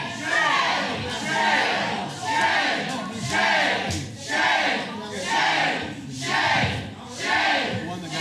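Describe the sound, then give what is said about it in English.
A large crowd at a Little Rock school board meeting shouts and cheers in loud, rhythmic waves, roughly one surge per second, like a chant rising and falling, reacting to a board vote nearly 8 hours after the meeting started. “Nearly 8 hours after the meeting's start, this was the crowd's reaction.”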